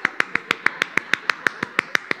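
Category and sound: human body sound, hands clapping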